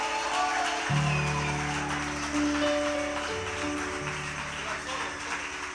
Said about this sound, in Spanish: Más fuerte ese aplauso a Jesús esta mañana.